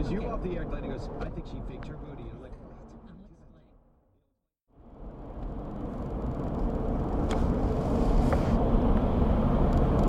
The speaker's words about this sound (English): Honestly, sitting in traffic right now, the only thing that's kind of keeping my mind at peace is the fact that I have this recorder on.